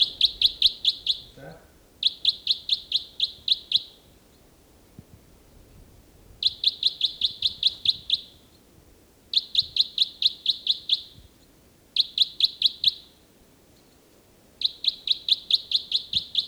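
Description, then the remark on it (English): A bird, individual 318, sings loudly in robust song while being recorded, delivering six rapid, buzzy trilled phrases of about two seconds each, separated by short pauses, over a low background rumble. “Start recording again, bird 318. He's in robust song.”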